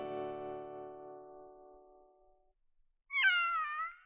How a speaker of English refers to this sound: What's that? It's a kitty. Our cat had kittens. And out of all those kittens, Jack and Jill had chosen a pretty little gray one to bring as their gift for King Cole's birthday.